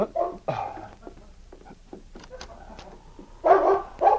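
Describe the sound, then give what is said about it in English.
The great dog King barks in loud bursts at a cabin door, two at the start and two more near the end, with faint scratching and scraping at the door in the quieter stretch between. “About half an hour later, Sergeant Preston was aroused into consciousness by the sound of the great dog King barking and scratching at the door.”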